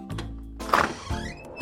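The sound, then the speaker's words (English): A front door opens on a windy, snowy day: a low thunk of the latch, a brief rush of noise, then a thin rising creak as it swings. No voices. “She opened the front door.”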